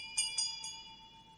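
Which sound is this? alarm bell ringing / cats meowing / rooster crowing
alarm bell ringing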